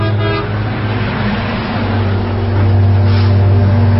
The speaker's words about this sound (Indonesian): sebuah mobil memberi lampu tembak sambil membunyikan klakson.